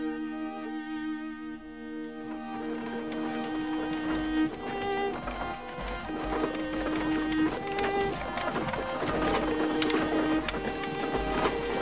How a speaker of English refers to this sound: Them. Wagons and horses.